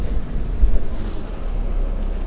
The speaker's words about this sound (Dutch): In de bus op dit moment. En het is buiten behoorlijk koud, dus ik denk, gaan we maar niet fietsen.